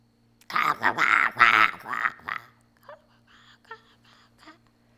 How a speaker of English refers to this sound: A little while ago, we heard a call and response, two crows, right? One was quite close, the other was quite far away.